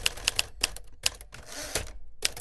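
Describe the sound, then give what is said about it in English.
Typewriter keys clack sharply against the paper in quick, uneven bursts, with a short rattling, grinding stretch in the middle before the tapping picks up again; the typewriter's bell sounds at the end of a line of type. No one speaks. “And then the tapping, of course, the keys going against it. The bell is at the end of the line of type.”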